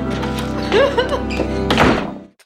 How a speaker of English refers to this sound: So that was her running into a powder room, slamming the door.